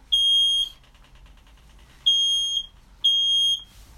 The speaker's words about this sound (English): That's the smoke detector. It's a sensitive smoke detector. I got one of those in my apartment. He'll quit in a minute. Yeah. That was pretty fast.